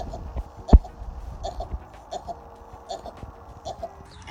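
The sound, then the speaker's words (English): A sheep sneezes with a sharp, loud burst near the start, followed by several softer snorting puffs at steady intervals against a murmur of farmyard background noise, in a clip from TikTok. “And now it's time for some sheep sneezes, brought to you by TikTok.”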